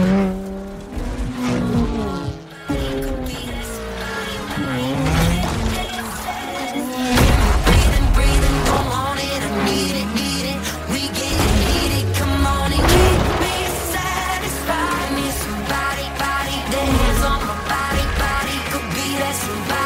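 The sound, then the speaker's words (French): Racing cars in a racing video game trailer roar past with revving engines and squealing tires, layered over loud driving music in a busy, energetic mix with no talking. “des voitures il va y en avoir beaucoup. Des routes il va y en avoir beaucoup. C'est Forza Horizon 4.”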